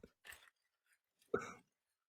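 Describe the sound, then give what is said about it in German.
Short bursts of crinkling plastic: a quick rustle, a pause with faint ticks, then a louder, fuller crackle, with no voices. “Oh, was hören wir hier? Plastik. Plastik, genau. Raschelndes Plastik.”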